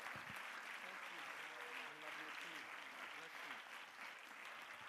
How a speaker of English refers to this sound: Let's give the Lord a hand clap of praise as he comes.